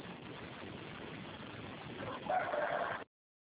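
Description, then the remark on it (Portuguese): A neighbour's rooster crows once near the end, a short rising call over a steady bed of low background hiss, with no one talking. “se for um mudo, que vocês vão ficar escutando os galos do vizinho.”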